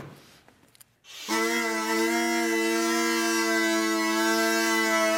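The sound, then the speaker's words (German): A steady, loud reedy drone starts after about a second of faint rustling and holds one unbroken pitch, rich in buzzing overtones: the bourdon note of a homemade bagpipe built from hardware-store electrical conduit tubes, with reeds cut from plastic document sleeves, supplied with air by pumping. “Das ist jetzt eigentlich aber nur der Begleitton, der Bordun, sagt man ja.”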